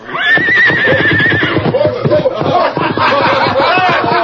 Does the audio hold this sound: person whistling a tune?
no